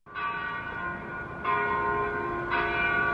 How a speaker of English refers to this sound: Downtown church bells signal the noon hour in front of the federal courthouse in Denver